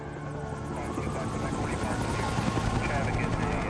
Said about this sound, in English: Now, a police chopper flies past the Empire State Building and swoops left over the city.